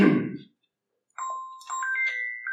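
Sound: mobile phone ringing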